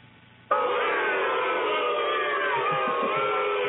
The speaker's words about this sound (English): Booing.